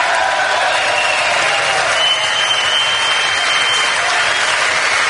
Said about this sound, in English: Democrats sitting on their hands, no one applauding from the Democrat side of the aisle, Republicans all standing up, giving the president an ovation.